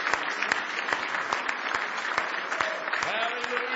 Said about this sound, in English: Now give him a big hand clap of praise if you love him tonight.